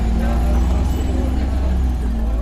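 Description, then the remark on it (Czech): A steady low rumble of road traffic with vehicles passing by at a road exit from Sady 35 heading toward Prague in Plzeň, Czech Republic; a continuous engine drone filling the background without any clear pauses. “No a teď jsme u jednoho z nebezpečných míst, to je sjezd ze sadu 35. směrem na Prahu, kde se člověk musí dobře rozhlédnout, aby ho nesrazilo auto.”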